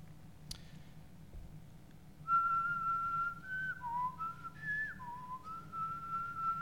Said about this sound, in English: And it's amazing how that quiet of a whistle got 120 of us up, even though we had slept maybe 2 hours every single morning.